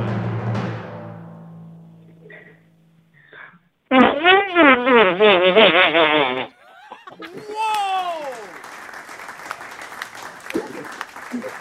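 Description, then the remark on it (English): A girl makes a loud, buzzing fart noise with her mouth lasting about two seconds with a wavering, fluttering pitch, followed by an outburst of laughter and clapping. A low, droning sound is heard briefly at the start. “Like, she says more with her fart than she does with her actual voice.”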